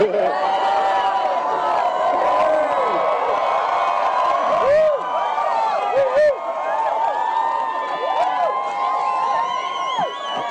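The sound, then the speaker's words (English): A large crowd of Democrats in 2017 cheers loudly and continuously, with many voices whooping and shouting over a dense roar of noise that barely lets up. “Johnny Depp in 2017 with a crowd of faithful Democrats”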